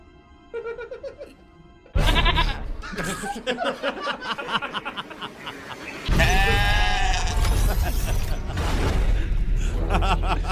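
Goats scream loudly and repeatedly, their harsh, wavering bleats overlapping into a raucous chorus that grows even louder and more frantic partway through.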